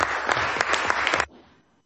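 A burst of crowd applause, dense overlapping claps with a few sharper peaks, steady and loud for about a second and a quarter before cutting off and fading quickly to silence.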